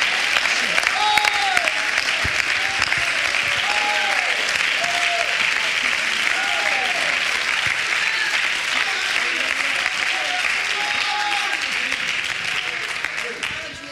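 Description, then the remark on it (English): An audience claps their hands in a dense, steady roar of applause that holds strong for the whole stretch, with scattered voices and rising whoops mixed in, tapering slightly at the very end. “Let's all clap our hands, church, because the best is yet to come.”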